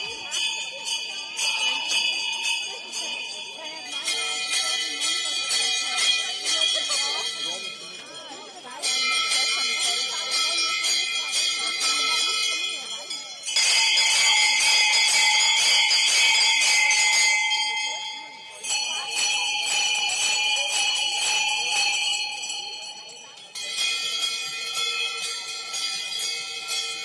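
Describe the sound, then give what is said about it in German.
Dense, continuous clanging of many costume bells shaken together at a Fastnacht carnival custom in the Pitztal, Tyrol: the bells of the Singesler, fool figures of the Tyrolean Oberland. Loud, surging in several waves with brief shifts between bursts, a bright metallic din filling the whole stretch. “das Glockenläuten von Fastnachtsbräuchen im Tiroler Pitztal, die Glocken der Singesler, der Narrenfiguren des Tiroler Oberlandes.”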